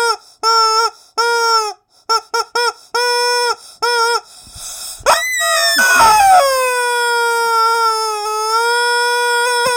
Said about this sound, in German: Die Quatschbrötchen-Sirene. Ich glaube, so funktioniert. Sie klingt sehr traurig. Wie war das? Dreimal lang, dreimal kurz?